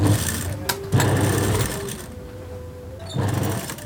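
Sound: sewing machine running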